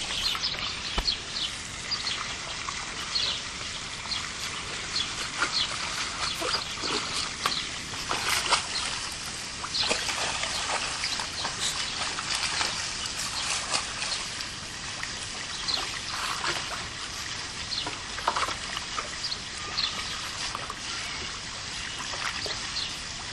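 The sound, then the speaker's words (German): About 30 penguins swimming and splashing: a steady wash of sloshing water runs throughout, broken by occasional sharper splashes, with no talking. “Jetzt steht man hier vor den Pinguinen, die hier rumschwimmen und hin und wieder ein bisschen planschen.”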